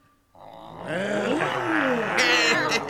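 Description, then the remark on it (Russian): A group of children's voices roar and growl together in a sustained, overlapping chorus, imitating lions and tigers, rising from a quiet start into a loud, rough, wavering din. “А рычать, как львы и тигры, можете?”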